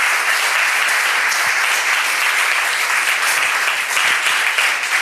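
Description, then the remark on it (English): Sustained applause from an audience, a dense, steady wash of many hands clapping at fairly even loudness for about five seconds, with no voices heard over it. “Please don't clap.”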